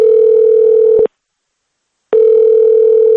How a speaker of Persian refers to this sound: با دریافت یک شماره تلفنی به خانواده در مسکو زنگ زدیم و نوروز را از نام رادیوی آزادی تبریک گفتیم.